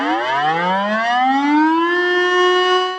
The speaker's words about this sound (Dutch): Jullie hoorden weer de sirene, zoals gewoonlijk, laten we het staatje weten, dat mijn podcast er is. En de sirene is ook eigenlijk een soort luchtalarm.